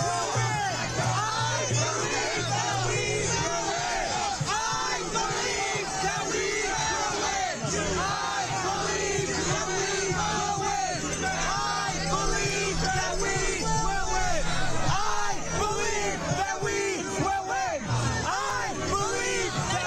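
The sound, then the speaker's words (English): A large protest crowd shouts the chant "I believe we will win" in unison, loud and sustained for the whole stretch, with dense overlapping voices and a steady roar of cheering underneath. “So they're shouting, I believe we will win.”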